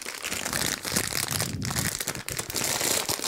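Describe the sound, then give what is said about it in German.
Continuous crinkling of plastic wrappers mixed with crisp crunching, a busy, dense rustle of snacks being handled and eaten without pause, fairly loud, with no clear talking. “Jetzt knuspert ihr da zusammen die Dinger weg.”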